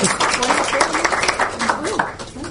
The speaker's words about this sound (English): Yeah, clap for her.